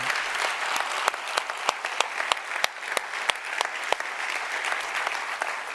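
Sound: audience applauding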